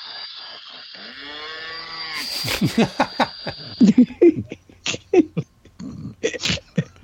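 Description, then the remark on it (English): A drawn-out, nasal cow moo rises and falls for about two seconds, then gives way to a series of sharp, breathy bursts like snickering laughter. No one speaks. “It just seemed like the perfect follow-up to our horse and cow discussion.”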